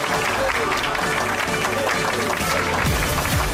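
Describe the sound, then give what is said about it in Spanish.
Sustained audience applause on a show, welcoming guests to talk about the Benidorm Fest. It is a dense, steady wash of clapping from many hands at a fairly loud level throughout, with some indistinct voices mixed in. “Un aplauso.”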